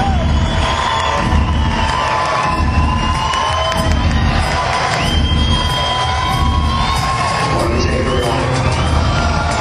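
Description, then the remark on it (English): A concert crowd cheers loudly and continuously as the lights go down and the band comes on, a dense roar of shouting voices with sharp whistles and whoops rising over it throughout. “There goes the lights, and there goes the crowd.”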